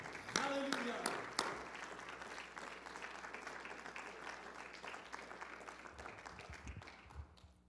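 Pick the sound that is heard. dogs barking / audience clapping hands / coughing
audience clapping hands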